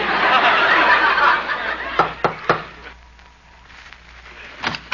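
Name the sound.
knocking on a door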